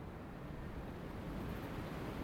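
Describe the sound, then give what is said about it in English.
Strong wind roars outdoors in the morning in a steady, unbroken rush with a deep rumbling low end, continuous from start to finish with no voices; the rain has stopped. “When I got up through the night, I could hear the wind howling.”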